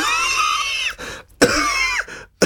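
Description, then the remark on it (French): Two harsh, raspy coughs from someone choking on their own saliva, each a loud strained burst with a wheezy pitch that bends downward, separated by a brief gasp, followed by a sharp intake of breath. “Oh là, je viens d'avaler ma salive de travers, pardon.”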